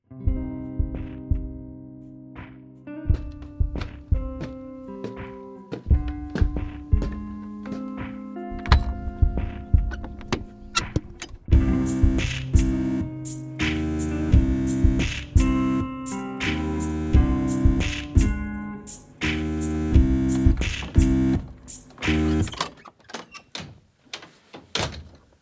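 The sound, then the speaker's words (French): The old barn door of a farmhouse on a valley slope near Basel, leading into a top-floor studio, creaks open and shut, its hinges groaning in long, wavering squeals between heavy wooden thuds and rattles, fairly loud with no talking. “Et comme elle est dans la pente d'une vallée, alors on passe encore un pont et on entre directement par la vieille porte de la grange au dernier étage dans le studio.”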